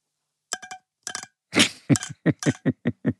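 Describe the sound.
A corncrake (Crex crex), a rail found in near-natural meadows, its call mimicked with a plastic trimmer attachment held in the hand: a few dry clicking bursts, then a steady run of harsh, rasping double strokes, fairly loud, with no voices.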